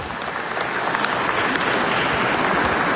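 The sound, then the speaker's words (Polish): Steady applause from an audience welcoming guests, a dense wash of many hands clapping at an even, fairly loud level for the whole stretch, with no voices standing out. “Są goście, tak, właśnie, brawo.”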